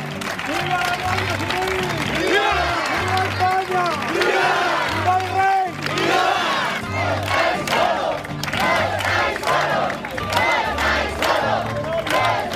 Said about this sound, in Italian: Immaginatevi i caroselli di mezzi che sfilano tra la folla al grido di «Viva la Spagna! Viva il re! Viva la Guardia Civile!» e poi attraversano il paese dritti verso Barcellona.